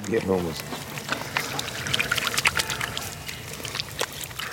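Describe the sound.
Water pours and splashes in an uneven, close-up trickle for several seconds, with irregular spattering as it hits something below. A brief voice sounds at the very start.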